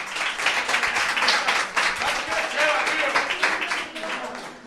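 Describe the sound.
A sustained burst of crowd applause for an audience member who answered a question, many hands clapping densely and steadily for several seconds at a fairly loud level, with some voices mixed in beneath the clapping.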